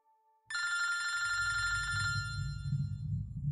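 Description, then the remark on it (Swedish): A telephone bell rings loudly and continuously after a brief quiet tone, its bright metallic jangle sustained for a couple of seconds before fading into a low rumbling background. “Det var Pierre som ringde.”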